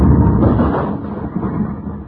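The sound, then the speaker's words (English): A bomb with a lit fuse, tossed out, explodes in a loud blast that rumbles as a deep, rolling roar heavy in the low end, sustaining for a couple of seconds and slowly easing off. No one speaks. “Who tosses the bomb out?”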